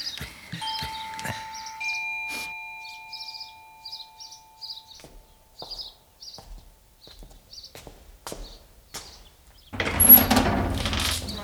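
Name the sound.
doorbell ringing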